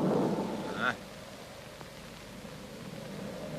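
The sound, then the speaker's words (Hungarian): A loud burst of low rumbling thunder from an approaching storm opens, then fades into a steady, hissing wash like rain or storm noise that continues to the end. “Közeleg a vihar!”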